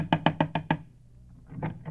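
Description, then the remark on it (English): Five quick, evenly spaced knocks on a door ring out sharp, followed by a brief pause and a couple of softer, muffled sounds. “I'll knock again.”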